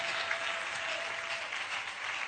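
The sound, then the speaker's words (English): Sustained applause from an audience, a dense, steady wash of many hands clapping at a fairly even loudness for the whole stretch, with no voices standing out. “Are you clapping for Amon Zema Menibe Briu Sudia?”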